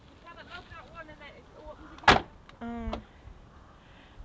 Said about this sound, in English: Close the door so your mum can lock it.